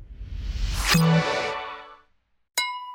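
A bright glassy clink of Coca-Cola drinking glasses from McDonald's rings out with a long shimmering decay over a low rumble, then after a short silence a second sharp, clear clink of glass sounds.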